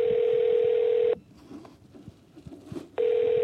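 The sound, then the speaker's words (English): A steady, loud telephone dial tone hums for about a second as calls are made to Canadian government officials, cuts out into a quiet stretch of faint clicks and rustle, then returns at the end. “I started making phone calls to officials in different parts of the Canadian government.”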